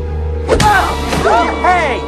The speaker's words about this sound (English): They rest for a moment, then lock swords again. The king punches Oggy in the face.